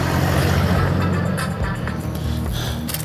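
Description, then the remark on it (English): A car engine, from a car pulling up outside a shop, rumbles low and loud, a steady droning hum that holds for about three seconds with a few faint higher clicks and swishes on top, and no voices. “Oh, no, there's another car here now. There's another car.”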